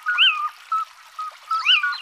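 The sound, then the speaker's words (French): A little owl gives two loud, mewing, cat-like cries about a second apart, each swooping up then down in pitch, with faint short notes in between and no voices. “Ce oui-ou, c'est la chouette chevêche. C'est son cri typique, comme un miaulement énergique.”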